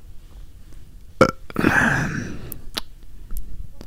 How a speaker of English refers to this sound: Stop burping words.